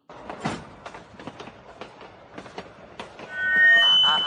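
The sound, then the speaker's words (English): A ghost train ride at an old rundown carnival rolls along its rails with steady, rhythmic clacking, then the wheels break into a loud, high metallic squeal near the end. No voices. “No fair hiding your eyes on the ghost train, you old brainy cat.”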